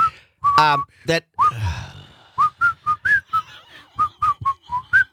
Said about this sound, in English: At the end, I was just going to say, it's funny you can't sing. But you can whistle. And then you hit that last note. No, you flattened out big time.